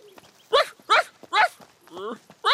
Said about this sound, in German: Hör auf zu kläffen, blöder Köter.